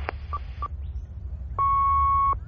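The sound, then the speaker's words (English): Two quick electronic blips, then a single sustained answering machine beep at the Fur and Feathers Veterinary Surgery: a steady mid-pitched tone lasting under a second over a low background hum, with no voices. “But if you would like to leave your number after the tone, we will make every endeavour to get back to you shortly.”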